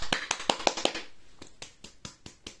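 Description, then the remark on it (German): Hand claps with no talking, demonstrating the right way to clap: about six quick, sharp claps in a rapid burst, then a short pause and a slower, softer run of evenly spaced claps. “Mann, du klatscht nicht richtig. Man klatscht so.”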